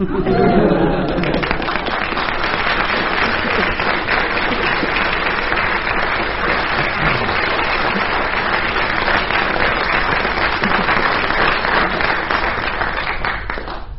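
A large audience applauds steadily for over ten seconds, a dense, sustained wash of clapping that stays loud and even throughout, with a brief voice at the very start; a panel game show audience applauds to pick the winning story.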